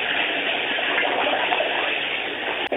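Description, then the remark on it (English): A steady, continuous rush of hot water running into a tub holds an even level throughout with no voices, ending with a brief sharp click. “I just need to get some hot water.”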